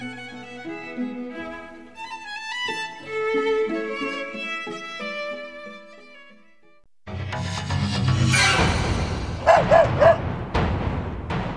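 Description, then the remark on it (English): A gentle tune plays, then cuts to a noisy scene where a dog barks several times in quick, loud bursts. “The dog wants its tea. It doesn't want burgers. It wants to eat me!”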